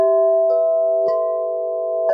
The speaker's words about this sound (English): the wind sweeps up the Wind River chime. We hear the gorgeous tones of these wind chimes, and it's just this like moment to snap back into the present.